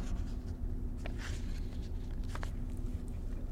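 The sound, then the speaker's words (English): Papers being shuffled and rummaged through while someone searches for a particular piece of paper, with a few soft rustling bursts over a low steady hum; fairly quiet, with no one talking. “I got so much junk here, I can't even find the piece of paper I want with the right reference on it.”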